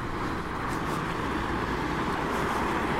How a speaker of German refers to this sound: Noch ein Bus. Das ist auch ein 250, oder?